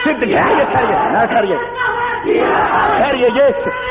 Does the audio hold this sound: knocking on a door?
no